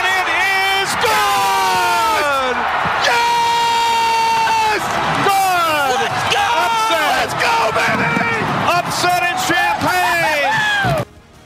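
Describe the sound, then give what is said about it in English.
A broadcaster screams in frantic, high-pitched bursts of celebration, voice cracking and sliding in pitch, loud for about eleven seconds over a roaring crowd, after a game-winning field goal with four seconds left in a Wisconsin versus Illinois college football game. “Whatever that screaming thing was”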